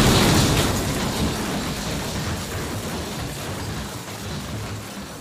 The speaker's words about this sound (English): The last explosion on the stage.